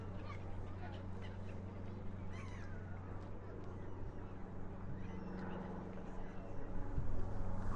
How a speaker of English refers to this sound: That's the sound of Stratford about to be invaded by a microlight aeroplane, which seems to be quite a lot of here,